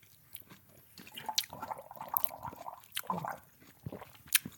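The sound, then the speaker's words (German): Wet mouth sounds: a sip followed by a series of moist lip smacks and clicks, fairly quiet and irregular, with a sharper smack near the end and no talking. “Ich mach's mal ein Schlückchen.”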